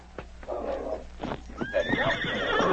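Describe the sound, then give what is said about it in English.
Hooves clatter in quick, uneven clip-clops as a horse lets out a loud, shrill whinny that rises and wavers, with more hoofbeats continuing beneath it, as two horsemen ride off. “The two horsemen were already gone by the time King reached their hiding place.”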